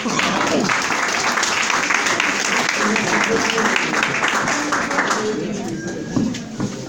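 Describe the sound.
A crowd applauds steadily for several seconds, a dense wash of many hands clapping that gradually thins and fades toward the end, with some faint voices mixed in.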